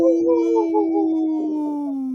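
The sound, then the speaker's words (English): A single sustained wolf howl, steady and fairly loud, holding a wavering tone before sliding slowly downward over about two seconds, with no other voices. “In this point of the show, we'd like to bring awareness to our Minnesota and Wisconsin wolves.”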